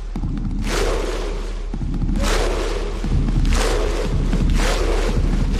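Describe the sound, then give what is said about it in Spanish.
A huge crowd of Icelandic football fans performs the Viking war chant in unison: slow, evenly spaced booming claps, each followed by a deep unison shout, repeating steadily over a constant roar of the crowd. “El grito vikingo ahí, todos ahí puestos al unísono.”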